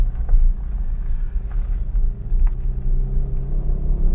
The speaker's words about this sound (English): This car is so loud. It's terrible.